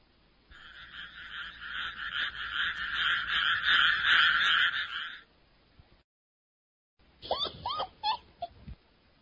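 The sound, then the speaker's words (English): A dense chorus of frogs croaking in the water of a river, a steady, rapid pulsing trill, fairly loud, then a pause before a few separate, sharper croaks. “They were having a very good time until they heard some frogs in the water.”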